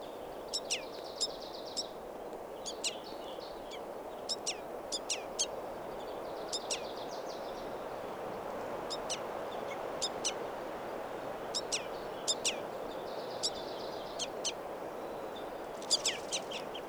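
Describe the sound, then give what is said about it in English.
A juvenile bird perched on the bark of a tree calls repeatedly in short bursts of thin, high chirps, sometimes in quick pairs or clusters, over a steady low outdoor rumble. “And now I see a calling juvenile perched on the bark of a tree.”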